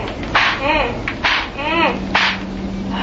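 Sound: whip cracking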